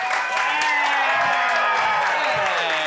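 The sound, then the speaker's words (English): A crowd claps steadily, a dense sustained patter, while scattered voices whoop and cheer above it, welcoming Turner Sparks, host of Lost in America. The applause stays at an even, loud level throughout with no pause. “Oh, yeah, guys, get those hands clapping. Get those voices whooping for the very funny Turner Sparks.”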